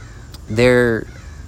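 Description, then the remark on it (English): A single loud, harsh crow caw lasting about half a second, clear above a quiet background hum. “There's a crow.”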